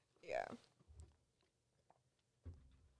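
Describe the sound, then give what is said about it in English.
A wet gulp of someone swallowing a drink right up against the microphone, followed by a couple of soft, low mouth and throat thumps in an otherwise quiet space. “Oh, I just heard you swallowing the microphone.”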